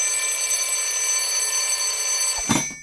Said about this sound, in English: turns off her alarm clock and sits up.